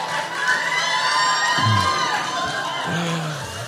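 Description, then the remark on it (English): A crowd cheers loudly and steadily after a joke about Liz Claiborne, with high whoops and shouts rising above a dense wash of applause, holding at a constant level for the whole few seconds. “I can't believe that Liz Claiborne is getting the biggest applause of the night.”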